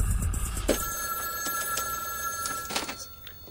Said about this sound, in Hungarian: Különös, nem? Csöng a telefon, bárki lehet. Mégis muszáj felvenni a kagylót, nem?